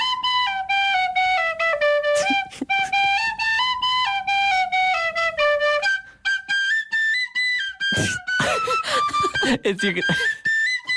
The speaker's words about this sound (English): You can hear the effort. I can hear the effort. Her like red cheeks. Yeah, yeah. From a real puffed out from blowing it. There's something so funny about a tin whistle.